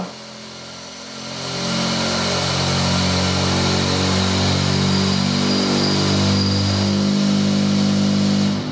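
A car test rig simulating driving over cobblestone roads rumbles up to a loud, steady mechanical shaking with a deep droning hum and hiss, running for several seconds before cutting off abruptly. No one speaks.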